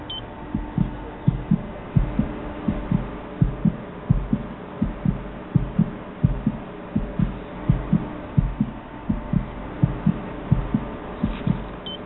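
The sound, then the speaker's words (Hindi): A rapid, steady fetal heartbeat of a baby boy pulses through a muffled, whooshing sonography monitor, about two beats per second, clear with a low hum underneath and no voices. “लड़का है, उसके दिल की धड़कन सुनना चाहोगी?”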